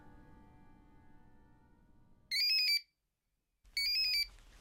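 An alarm clock rings in two loud, shrill electronic bursts separated by a brief silence, following a stretch of quiet low rumbling background noise.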